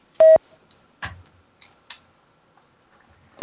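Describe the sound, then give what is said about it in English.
A short, loud electronic beep like an answering machine tone sounds once, followed by a few scattered clicks and near-silence, then another tone starts right at the end. “Or you can leave your name, phone number, and area code at the tone.”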